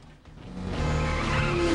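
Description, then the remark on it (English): An oncoming car swerves as motorbike riders dodge it, its engine swelling into a loud rush as the tires skid and squeal in a sustained, rising screech. No voices. “They dodge an oncoming car.”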